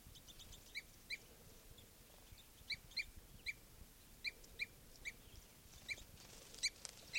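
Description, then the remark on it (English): Two birds, a male and a female, fighting, trade sharp, high-pitched squeaky calls in an agitated back-and-forth, roughly a dozen short bursts in an uneven rhythm over a low, steady background rumble. “Fight between a male and a female.”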